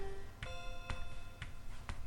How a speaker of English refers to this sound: 201B has that obnoxiously loud clock in it behind me, and it's connected to 201A through the doorway I'm standing in.